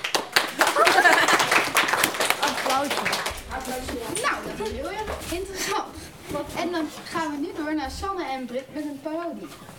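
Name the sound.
applause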